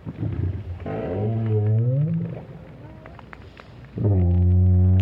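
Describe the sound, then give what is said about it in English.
Deep, moaning calls of a lone adult right whale in the Southern Hemisphere, recorded by whale scientist Roger Payne with a hydrophone at the bottom of the sea. Two long tonal groans rise and bend in pitch, with a low rumbling hiss of ocean noise between them and no voices. “There's nothing wrong with this right whale.”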